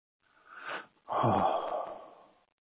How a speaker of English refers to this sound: Deep, deep breathing. The more we breathe, the more we relax. The more we relax, the more we can fill up with light.